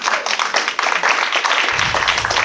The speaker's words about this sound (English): Round of applause, people, come on.